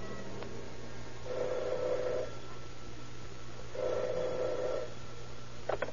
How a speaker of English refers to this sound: The investigation is checkmated until late that night when the operator at detective headquarters receives a strange phone call.